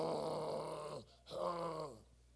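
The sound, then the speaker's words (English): A preacher imitates snoring with two drawn-out, raspy snorts separated by a short breath, fairly loud, each sliding downward in pitch. “I was at home sound asleep. Snoring.”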